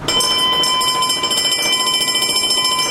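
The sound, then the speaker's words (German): A continuous, loud electric bell rings steadily throughout, a rapid metallic clatter with bright sustained overtones: the fire alarm sound effect of a cinema organ, part of its effects for silent film screenings, with no talking. “Wir sehen jetzt rechts als erstes den Feueralarm.”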